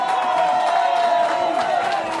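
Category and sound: crowd, crowd cheering sound effect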